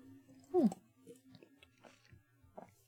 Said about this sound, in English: Excuse me, had to have some water.